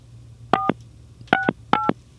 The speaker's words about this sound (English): You forgot to enter the code. Yeah, probably. You have to dial 9 to get out.